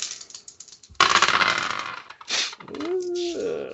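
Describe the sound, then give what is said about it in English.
A die is rolled for a 'reconnect with the spirit of the wolf' test in a game, a sudden burst of hard plastic clatter that rattles and tumbles for about a second before fading. A person starts speaking shortly afterward. “I think that's it's 1 experience per die, right?”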